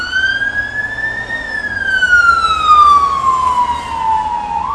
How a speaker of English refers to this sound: That is a UK ambulance.